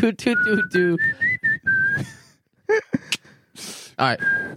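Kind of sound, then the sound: human body sound, person whistling a tune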